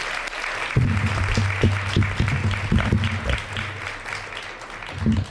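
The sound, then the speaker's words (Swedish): A crowd in Gothenburg applauds steadily as two company founders are welcomed onto the stage, a dense wash of clapping from many hands that carries on throughout with a low hum underneath, with no speech over it. “Varmt välkomna upp på scen och en stor applåd”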